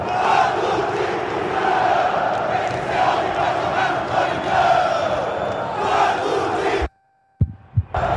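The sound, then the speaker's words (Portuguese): Corinthians football fans at the stadium in Itaquera chant and shout angrily in protest after a 1-0 home defeat to Internacional, a loud, continuous roar for about seven seconds, then it cuts off abruptly into silence and a few short thumps. “Chacó abrindo o microfone pra gente ouvir protestos da torcida do Corinthians em Itaquera.”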